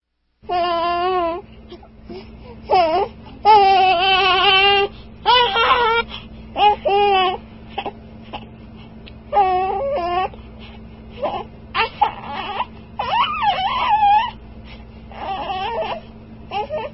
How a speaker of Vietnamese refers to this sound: Ông Jerome lúng túng vì đứa bé la hét ầm lên.